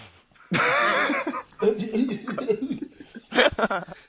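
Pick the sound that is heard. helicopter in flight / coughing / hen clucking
coughing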